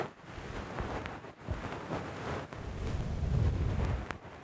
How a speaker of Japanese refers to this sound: ほら、鳴ってる鳴ってる。このパチパチって音がマイクのところ、マイクこの近いところ、耳の近くに梵天の毛が引っかかる音なんですよ。